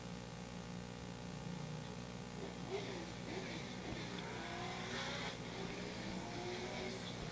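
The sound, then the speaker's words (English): Race car engines rumble steadily throughout, a continuous drone of several cars rolling at reduced speed behind a pace truck into turn one at Charlotte County Motorsports Park, with slight surges in pitch as they swerve to clear dust and dirt off their tires, over broad track ambience. “Pace truck takes him down into turn number one. Car starting to swerve, get the dust and dirt off those wheels and tires.”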